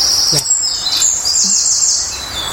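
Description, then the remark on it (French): A bright, high bird song in three phases, with a trill in the middle, rings out over a steady outdoor background and ends in a short series of quick, repeated 'quick, quick, quick' notes; the song lasts about four to five seconds. No one speaks. “Et il se termine par quick, quick, quick. Il y en a un qui répond par là.”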